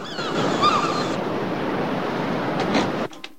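Ocean waves wash and break against the shore in a steady, broad rush, with faint cries of a seagull swooping and gliding over the ocean early on, before the surf cuts off abruptly near the end.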